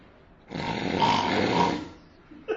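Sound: loud snoring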